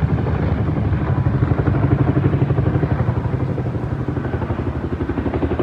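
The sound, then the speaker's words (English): A water-dropping firefighting helicopter passes overhead during a wildfire in Wackadoo, California, its rotor thumping in a steady rapid pulse over a loud engine roar that swells and then slowly eases as it moves on. “Water dropping helicopters. They'll go to the golf courses. They'll go to the lakes. And drop it.”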